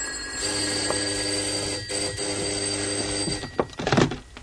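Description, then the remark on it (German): A doorbell at a front door rings in one long, steady, fairly loud peal lasting about three seconds as someone is at the door, followed by a few dull knocks and rustling thuds near the end. “Bibi, geh doch mal aufmachen, da ist jemand an der Tür.”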